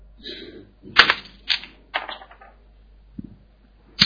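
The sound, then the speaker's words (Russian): A die clatters across a hard surface in a handful of sharp, irregular clicks and knocks, loudest early on, then a pause before a last tap; the roll comes up 5. “Дай кубик.”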